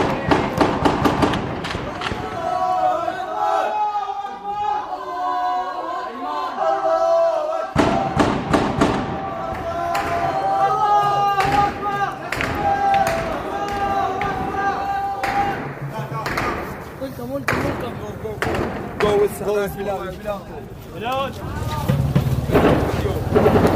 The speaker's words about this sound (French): La manifestation est brutalement interrompue par des rafales de tirs automatiques. Tout le monde s'est dispersé, ou quasiment.